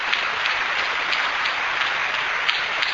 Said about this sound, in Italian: Un bel applauso grande per tutti però adesso.